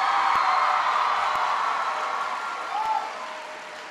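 A crowd at Masterman in Philadelphia applauds steadily for the person who gave the introduction, a dense wash of clapping that holds strong for a few seconds, then gradually thins and fades toward the end. No one speaks.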